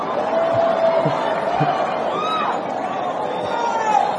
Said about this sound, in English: You screaming like that. Come on up here. You just busy screaming. Not you. I heard a lady screaming over here.